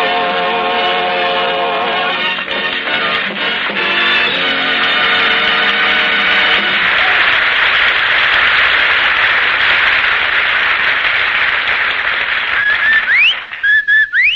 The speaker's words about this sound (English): Friends, if you want easy success on wash day, you'll take a tip from that Rinso whistle.